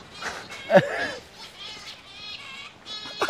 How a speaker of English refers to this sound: Holy shit, what kind of bird is that? I think it's an alien. So strange.